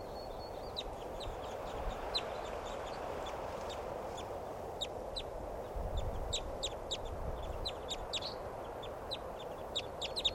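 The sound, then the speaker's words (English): A flock of birds takes off amid a dense stream of quick, high chirps and chitters, with a brief low rustling swell partway through over a steady outdoor hiss. “These are the flock now. They all just took off.”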